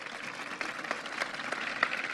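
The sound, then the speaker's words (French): A crowd applauds steadily after a speaker's words in Greek, a dense wash of many hands clapping at an even, moderate level with no voices on top, holding constant throughout. “Je ne sais pas, mesdames et messieurs, si je dois prendre vos applaudissements comme un soulagement que je m'arrête de parler en grec ou un remerciement de cet essai.”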